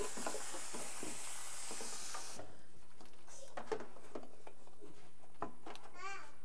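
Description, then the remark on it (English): A dishwasher running, with a steady rushing hiss of spraying water that stops after about two seconds, then scattered soft clunks and knocks, and a faint child's babble near the end. “It's a dishwasher.”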